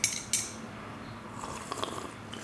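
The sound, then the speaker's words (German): A couple of sharp cup clinks open, followed by soft, noisy slurping sips of coffee, fairly quiet and with no talking. “Das schlürfen wieder, ne?”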